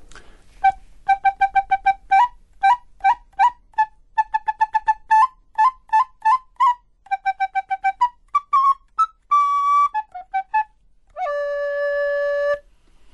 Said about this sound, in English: In English, it's called the recorder, which was, and to record in the Renaissance meant to sound like a bird.